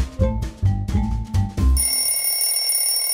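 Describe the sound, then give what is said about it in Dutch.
An alarm clock, waking Bobo on the first day of school, rings with about five loud, rapid metallic clangs, then a high, steady ringing tone lingers on its own until the end, with no voices. “Als de wekker gaat, is Bobo meteen wakker.”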